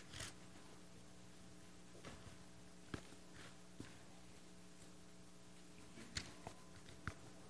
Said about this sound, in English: Still a few more pages turning. I had a bookmark. That's how I found it, so I had a head start.